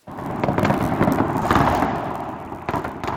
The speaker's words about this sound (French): Les feux d'artifice tirés des quatre coins différents de la ville ont illuminé le ciel de Pristina samedi soir. Le pays fêtait ses 10 ans d'indépendance